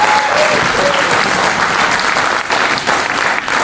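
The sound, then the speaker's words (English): An audience welcomes visitors from Kanish Church in a steady, dense burst of applause, loud and continuous throughout, with many hands overlapping into a broad wash of sound and no voices standing out. “I know for many people here, well, some of us have had the privilege of being able to go over there, but I just thought it'd be great for us to welcome them properly with a big round of applause.”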